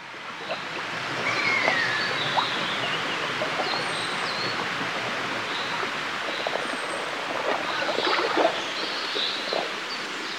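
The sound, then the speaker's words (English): Scattered bird calls, including a common buzzard and a chiffchaff, sound faintly over a steady rushing background like water or wind. No one speaks. “identifying as many different bird calls as possible from that fragment, which I've got the common buzzard. There's definitely a chiff-chaff in there”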